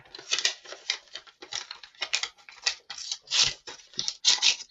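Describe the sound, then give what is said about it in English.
Paper crinkles and tears in a run of short, crisp rustling bursts as an envelope is pulled open to announce an award winner, with steady scratchy handling throughout and no voices. “this envelope, it's like a triplicate.”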